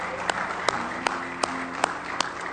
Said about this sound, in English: Let's give the Lord a good hand clap of praise tonight. If you love Him with all your heart.